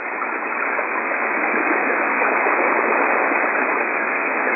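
Steady, dense radio static hisses continuously for several seconds, a band-limited rushing noise at a constant loud level with no voices or signal breaking through, heard on an AWA amateur radio net while calling for stations, with considerable noise interference.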